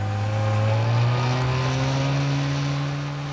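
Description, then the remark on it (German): A powerful motorboat engine roars steadily, its droning pitch gradually climbing as the boat races out to sea, with no voices over the continuous loud hum. “fuhren mit dem Wagen aus der Stadt, stiegen dann in ein Motorboot um und rasten aufs Meer hinaus.”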